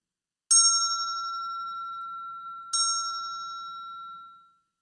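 bell ringing

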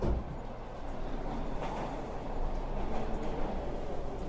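train arriving

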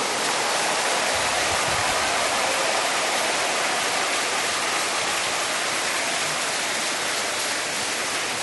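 audience applause

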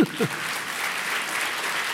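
hand clapping applause

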